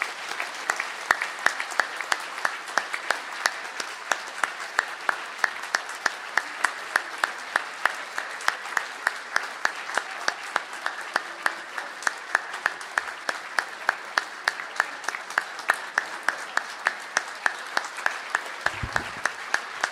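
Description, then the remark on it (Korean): A large audience claps steadily for the full stretch, a dense, even wash of many hands at moderate volume with no talking over it, at Nampo Church's 30th anniversary service, applauding in congratulation as grandchildren present a bouquet of flowers. “네, 다 같이 박수로 축하드리기 바랍니다.”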